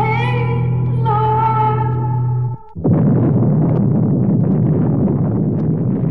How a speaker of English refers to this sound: With this unspeakable explosion, the city once again, and for all time, is destroyed. And in the doomsday chain reaction, so also is the planet called Earth.